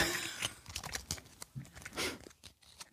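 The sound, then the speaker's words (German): A plastic prize capsule, like a surprise-egg capsule, being twisted open in a prize draw for tyre vouchers: a run of sharp, irregular clicks and crinkly crunches, fairly loud, with no talking over them. “Man dreht die auf, die Kügelchen.”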